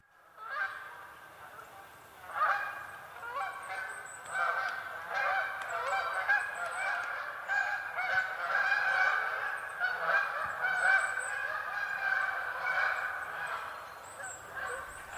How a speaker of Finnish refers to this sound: Ja maanantaisen tapaan vuorossa on viikon luontoääni, Kanadan hanhi. Sen esittelee ….